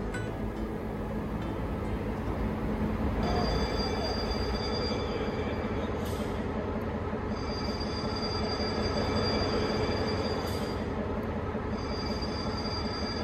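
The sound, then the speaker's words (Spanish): A train rolls steadily along the rails, a loud continuous rumble with high metallic wheel squeals ringing over it throughout, no voices. “El tren trajo alivio y consuelo, y en su desaparición llevó vagones cargados de sueños, de anhelos de una vida mejor, y dejó sumidos en la desolación y abandono a nacientes poblados que engendraba el tren.”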